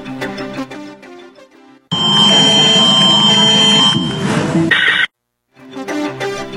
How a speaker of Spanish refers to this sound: Con la activación de la alerta sísmica en todos los teléfonos celulares, se realizó el segundo simulacro nacional 2025. El mensaje llegó acompañado de un fuerte sonido.